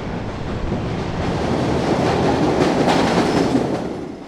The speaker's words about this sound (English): Okay, I can feel the wind coming through, so I guess that is. Here comes the train. Here comes. Yeah. Okay, I'm going to step back.